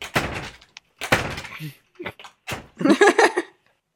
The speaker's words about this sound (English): Is that your screen door? That's my slamming screen door.